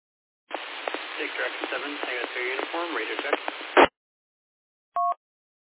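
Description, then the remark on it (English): A quiet, band-limited radio transmission of a voice talking over steady hiss during a radio check, a little low with white noise in the background, cut off by a brief squelch burst, followed after a pause by a short two-tone electronic beep. “A little low and a little bit of white noise in the background.”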